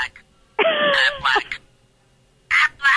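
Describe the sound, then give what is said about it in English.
A toy duck, a little Aflac duck gift, quacks in a few loud, nasal bursts: one long squawk, a shorter follow-up, then two more quacks after a pause, clear with no talking. “That is a little duck. You sent me a box of Quackers.”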